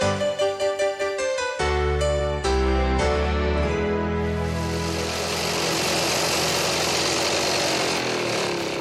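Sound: lawnmower engine running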